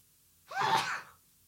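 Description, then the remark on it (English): A single sneeze bursts out, breathy and voiced, lasting under a second before trailing off into quiet. “Bless you.”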